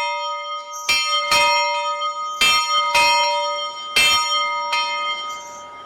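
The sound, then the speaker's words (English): A church bell at a Lutheran retreat center, used to announce services and classes, rings out in a steady series of strikes, about six clangs over several seconds, each leaving a long shimmering hum that overlaps the next. Loud, with no voices. “For half a century, Vespers services, matins, Bible studies, and weaving classes have all been announced with a bell.”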